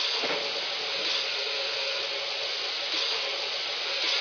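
A steam locomotive hauls a heavy train, giving off a steady, loud hissing roar of steam that holds evenly for the whole stretch with no voices over it.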